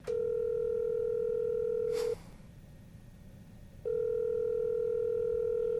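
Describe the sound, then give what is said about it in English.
A steady, loud telephone dial tone hums for about two seconds as a phone call is being placed, cut off by a sharp click, then after a quiet pause of nearly two seconds the same flat tone returns and holds. “Well, let's call Matthew and tell him he's won.”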